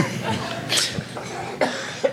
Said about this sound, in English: Sorry, I had to cough before saying, let the games begin!